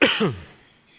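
An audience coughs together on cue after a count of three: a sudden burst of many coughs and throat-clearings at once, loud and clustered within a split second, then quickly fading into a quiet hum.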